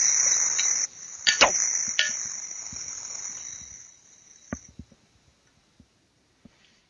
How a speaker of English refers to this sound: It's a Metal Zero. 1992 X-Frame. The bearing obviously is pretty loud. That is a counterweight I'm hitting up against it.